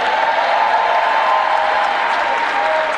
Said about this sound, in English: We thank you. I don't want to further embarrass you, but we thank you. And I thought that we should give him a round of applause.